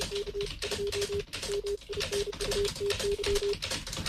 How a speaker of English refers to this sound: I like the lo-fi Stacy. Stacy's typing, right?